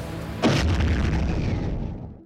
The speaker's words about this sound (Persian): یکی دو ساعتی از ظهر گذشته بود، یک شنبه 8 شهریور. هنوز گرمای تابستانی تهران فروکش نکرده بود که یه دفعه صدای انفجاری شهر رو لرزوند.